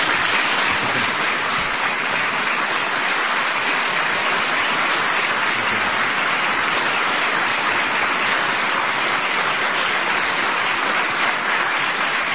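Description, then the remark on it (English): Loud, sustained applause from a large crowd, a dense crackling wash of clapping that holds steady and unbroken for about twelve seconds with no voices standing out. “I haven't heard such deafening applause since Nuremberg.”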